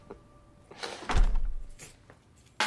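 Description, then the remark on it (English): The front door of a dark house swings open as someone enters, with a low thud and a rustling scrape, followed by a brief clatter and a sharp click at the end. “The front door opens.”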